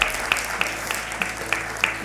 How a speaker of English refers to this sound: Give him a great hand clap, all right?